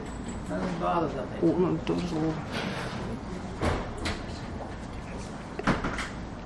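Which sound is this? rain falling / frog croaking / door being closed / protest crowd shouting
door being closed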